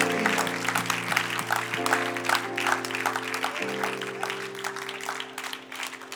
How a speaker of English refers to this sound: Why don't we give God a hand clap of praise, amen, for all that he's done.